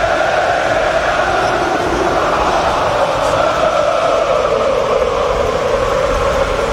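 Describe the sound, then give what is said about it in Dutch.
A huge football stadium crowd of Feyenoord supporters sings a sustained chant in unison for the player Ueda, a loud, steady wall of massed voices with a slowly shifting melody and no pauses. “Ueda wordt toegezongen door het Feyenoord publiek.”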